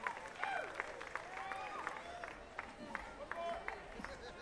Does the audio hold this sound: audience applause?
yes